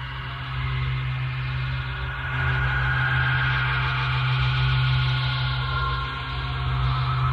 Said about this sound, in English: The heartbeat of Laika, the dog, perfectly peaceful and seeming at rest.